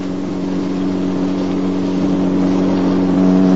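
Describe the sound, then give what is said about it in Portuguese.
A loud car engine drones steadily as the car speeds along a dark Chicago road with sharp curves, its humming tone holding strong and swelling slightly louder toward the end, with no voices over it. “Você está correndo muito. Que nada, os carros foram feitos para correr”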